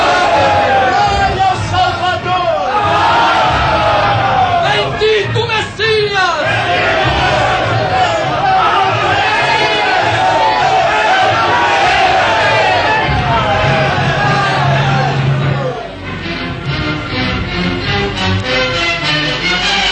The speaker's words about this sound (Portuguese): Montado na jumentinha arreada com a capa dos apóstolos e pisando os mantos que o povo estendia pelo caminho, Jesus entrava solenemente em Jerusalém, seguido pela grande multidão que o aclamava.